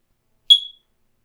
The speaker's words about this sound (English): One day, the smoke detector beeped.